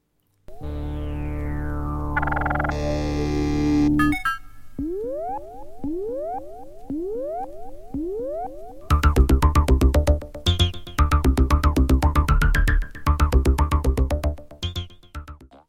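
Electronic synth-pop music with no vocals, played from a vinyl record: a long descending synth sweep, then a run of repeated rising electronic blips, leading into a loud, pulsing rhythmic section of buzzy synthesizer tones.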